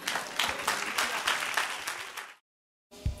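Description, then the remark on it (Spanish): An audience stands and breaks into sustained applause for the Lord, dense overlapping claps filling the air at steady volume for over two seconds, then a sudden cut to silence before the clapping briefly resumes. “Póngase en pie y denle un aplauso al Señor.”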